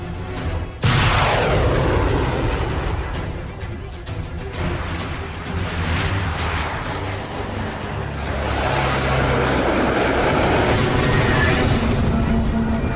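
A sharp, heavy blast opens a dense, continuous roar of weapons fire and explosions, fired from a ship's deck at a laser-locked enemy aircraft, loud, with fresh bursts swelling again near the end. No voices are heard.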